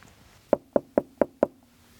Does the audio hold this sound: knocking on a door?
yes